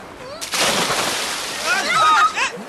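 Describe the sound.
A person jumps off a boat into the sea with a sudden, loud splash, followed by a couple of seconds of churning, sloshing water in strong waves while voices call out over it.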